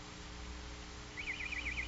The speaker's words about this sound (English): Lord Fu, where is that coming from? It seems to be in the garden outside the window, Your Highness. Open the window, Fu. It is open, Your Highness. Oh. It must be my real nightingale who come back to me. Why, it's coming closer.